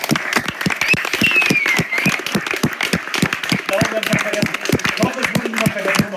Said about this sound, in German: Ja, und das ist auch der zahlenmäßigste, dickste Block von Leuten, die hier die Sachen möglich machen. Deswegen nochmal dicken Applaus.